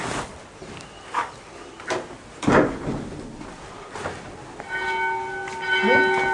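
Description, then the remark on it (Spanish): Church bells ring out, with several irregular clanging strikes followed by a sustained, resonant peal that hangs in the air, over a noisy outdoor background. “Siguen las campanas.”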